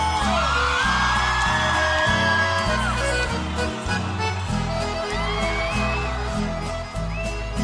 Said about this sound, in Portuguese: Colmeia FM. As mulheres largadas, solteiras, dão um grito.